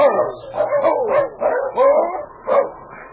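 dog barking

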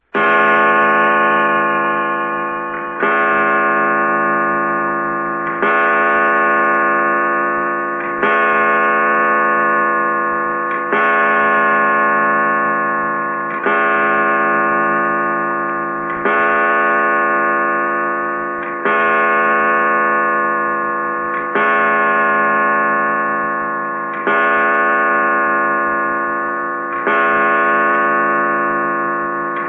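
clock striking midnight

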